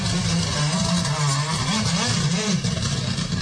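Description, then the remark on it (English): The engine of Sam Moffat's Hyundai rally car, car number 4 at the Donegal rally, revs loudly and continuously, its pitch rising and falling in rough surges with a rattling, buzzing edge. “As Sam Moffat makes a bit of noise behind us.”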